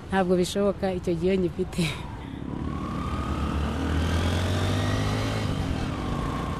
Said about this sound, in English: It is rush hour in the Rwandan capital. Cars crawl to the city centre, which gets more and more congested at the crossroads.